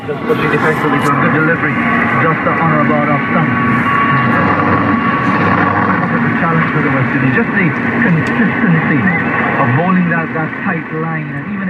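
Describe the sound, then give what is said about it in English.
A cricket match broadcast plays on television during an Australian summer: commentators talk steadily over a continuous, even wash of crowd and background noise, loud and unbroken throughout. “The sounds of cricket in an Australian summer, and someone probably taking a nap in front of the television there.”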